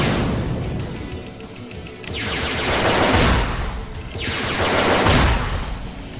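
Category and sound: sound effect, video game cannon firing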